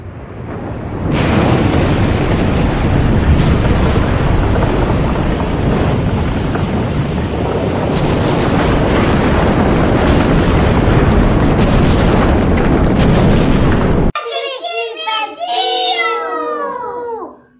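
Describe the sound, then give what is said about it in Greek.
A volcanic eruption roars with a deep, continuous rumble and occasional sharp booming bursts for about thirteen seconds, then cuts off abruptly into a few seconds of high, wavering tones. “Όταν το βουνό βγάζει στάχτη και καπνό, κλείνουμε καλά πόρτες και παράθυρα σφιχτά.”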